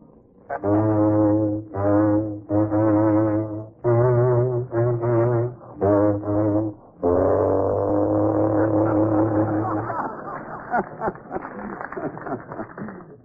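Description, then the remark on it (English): A deep, blaring horn-like instrument, not a foghorn, honks out a short tune called Hitler's funeral march, loud, evenly spaced notes ending on a long held blast, followed by a rough burst of clattering crowd noise. “Say, Joe, tell them in England it's not a foghorn.”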